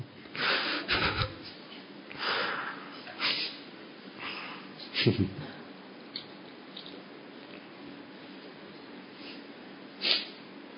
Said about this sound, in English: I forgot I had a cough.